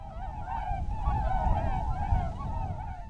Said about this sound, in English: Thanks to the U.S. Fish and Wildlife Service for the swan sounds.